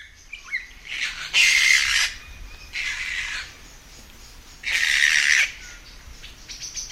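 Three loud, harsh screeches of young kaka, New Zealand forest parrots, ring out in bursts, each lasting under a second, over a quieter background of scattered bird chirps at dusk in Karori Sanctuary, with no one talking.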